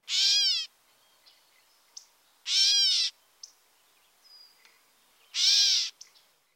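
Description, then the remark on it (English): Three harsh, nasal, cat-like meows from a catbird, each under a second and evenly spaced, with a few faint short chips and notes in the quiet gaps between them. “Also listen for the diagnostic cat-like meow.”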